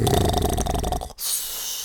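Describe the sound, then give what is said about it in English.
A person on 102.5 FM Sound Art Radio mimics snoring, as if someone is in bed snoring: a loud, rattling throaty snore lasting about a second, then a brief pause and a breathy, hissing intake of air. “Ooh, he's in bed snoring.”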